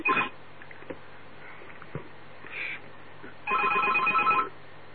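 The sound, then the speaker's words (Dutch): A telephone rings in two bursts of trilling electronic tones, one brief at the start and a longer one near the end, with faint clicks and rustles in between and no talking. “Een klein momentje hoor, ik heb weer mijn telefoon.”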